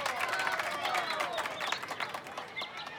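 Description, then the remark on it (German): A crowd applauds steadily for a few seconds, dense overlapping claps with a murmur of voices underneath, a sizeable audience applauding the referees after a youth tournament final. “Als erstes ein Applaus für unsere Schiedsrichter, die heute sehr gut gepfiffen haben.”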